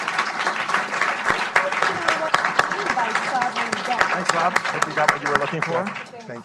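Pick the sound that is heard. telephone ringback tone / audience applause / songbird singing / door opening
audience applause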